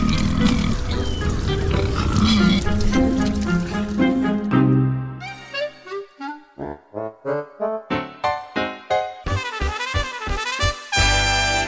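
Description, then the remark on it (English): Pigs grunt and oink in a rapid series of short, loud snorts, preceded by a dense, rumbling jumble of animal noise; no one speaks. “This is all thanks to the work of the great honking Pig Patrol.”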